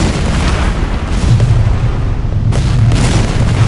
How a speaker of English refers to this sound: There wasn't much to see as the shells rained down on the vill. The target was hidden behind the high dunes. As the erratic booms of the barrage rolled over the water, black smoke billowed over the crest of the ridge.